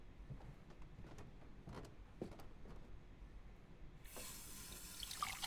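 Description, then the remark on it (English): A few soft clinks and handling noises, then a tap is turned on and water rushes steadily into a glass, fairly loud, with no talking. “Hey, could you get me a glass of water?”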